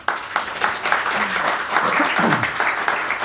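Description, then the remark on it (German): Sustained applause from a live audience at a live recording in the Oberpfalz Medien publishing building, a dense wash of many hands clapping at steady loudness, with a few faint voices and cheers mixed in. “Und am Applaus hört man, dass es heute noch eine besondere Folge ist, dass eine Live-Aufnahme ist, hier bei uns im Verlagsgebäude von Oberpfalz Medien.”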